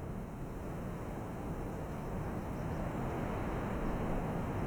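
A strong, steady wind roars without pause, a dense low rumble buffeting the microphone, with no voices heard.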